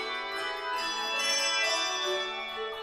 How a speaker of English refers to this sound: Maybe you've seen a handbell choir in church around Christmas or in schools.